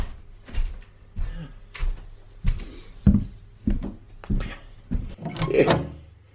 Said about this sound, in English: I'll let you in the back door.